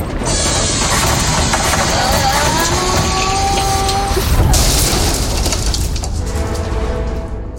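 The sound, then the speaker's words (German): A video game spaceship slams at full speed into the tree with the golden apples: a loud, continuous roaring rumble with a sharp crashing burst midway and faint warbling tones above the noise. “Ich glaube, ich bin voller Pulle gegen den Baum geknallt.”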